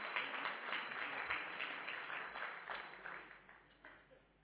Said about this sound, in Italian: E facciamo un altro applauso al Signore, perché Lui se lo merita.